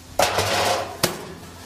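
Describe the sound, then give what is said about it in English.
A heavy object bangs inside a tumbling brand-new clothes dryer, in real time: a loud metallic clang, a rattling, ringing wash, then a second sharp bang about a second later, with no voices. “He sticks an object into this dryer and watch what happens.”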